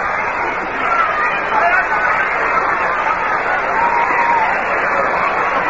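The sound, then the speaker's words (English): A steady wash of crowd noise from a baseball crowd of 39,551 at Candlestick Park, San Francisco, during a New York Mets game against the San Francisco Giants, a dense murmur of many voices blending into a continuous roar with no clear individual words, holding fairly loud throughout. “A crowd here at Candlestick Park today of 39,551, the largest crowd ever to see the New York Mets play.”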